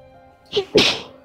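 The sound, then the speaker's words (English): A single sneeze: a short breathy catch followed by a sharp, loud, hissing burst that fades quickly, heard on its own with no talking. “God bless you.”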